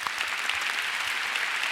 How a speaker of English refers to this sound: He really does love us. Give him a big clap today.